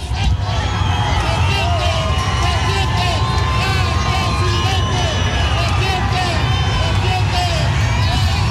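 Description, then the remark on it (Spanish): A large crowd shouts and cheers continuously as José Antonio Kast passes greeting them, a dense wash of many overlapping voices with scattered higher yells rising above the steady roar throughout. “Escuchamos un poco el ambiente también de la gente gritando.”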